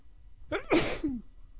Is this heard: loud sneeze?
yes